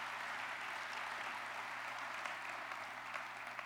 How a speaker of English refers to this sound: Let's give Tim Clark a round of applause.